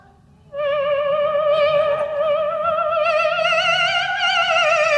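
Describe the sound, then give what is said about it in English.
A thin, buzzing electronic tone from an electronic instrument starts after a brief pause and holds steadily for several seconds with a slight waver, imitating a mosquito's whine. Fairly loud, with no talking. “Mosquito.”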